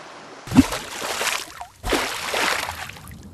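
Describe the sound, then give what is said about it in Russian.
Two loud splashes a second or so apart as two people wearing masks and diving suits plunge into the ocean, each followed by a rushing, bubbling wash that keeps churning to the end. “Сейчас надвинем на лицо маски и в воду.”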